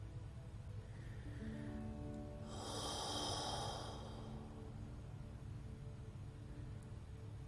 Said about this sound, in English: Keep that breathing going.